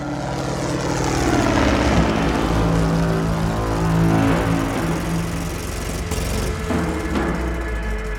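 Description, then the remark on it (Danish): A truck engine drones steadily as it drives along a cleared road through the rainforest and the driver accelerates hard, a loud, continuous low rumble with a slight rise and fall in pitch and no voices. “Dernede der kører Emmanuel i sin lastbil.”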